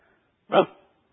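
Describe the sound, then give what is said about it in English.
A single short, sharp dog bark rings out once, fairly loud, with near silence before and after it. “And I'm here to tell you, from time to time, that old past, that old dog of the past come around barking. You can hear him.”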